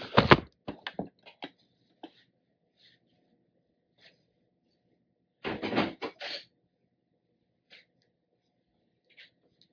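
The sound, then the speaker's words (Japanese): Dishes are moved around after the cleaning is finished, clattering and knocking in two busy bursts, with sharp clinks and thuds separated by scattered single taps and long quiet gaps. No voices are heard. “食器を動かしますよ。”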